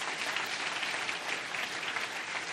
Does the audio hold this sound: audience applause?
yes